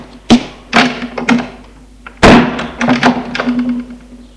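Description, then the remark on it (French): A grandfather shuts his office door: a sharp click and some handle rattling, then one heavy thud followed by a few smaller latch clicks, all over a steady low hum. “Le grand-père ferme la porte.”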